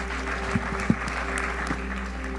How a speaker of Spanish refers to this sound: Den un aplauso al Dream Team aquí, que están todas.